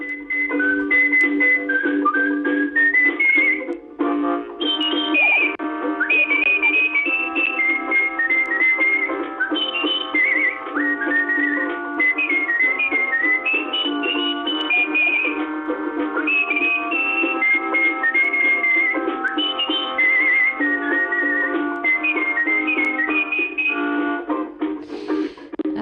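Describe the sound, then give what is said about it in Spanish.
A professional whistler whistles a lively melody, bright wavering notes running continuously for about twenty-five seconds over a steady instrumental accompaniment, with no talking. “De profesión, silbador profesional, todo un artistazo, capaz de transformar en silbidos casi casi cualquier melodía, como esta”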